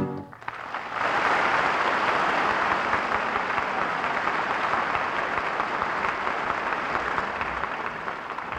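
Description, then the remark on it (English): The audience at the Revue Mexicana bursts into loud, sustained applause for a guitar virtuoso. A dense wash of clapping swells within the first second and holds steady, with no one speaking over it. “The audience at the Revue Mexicana stops the show nightly with their applause for the great guitar virtuoso”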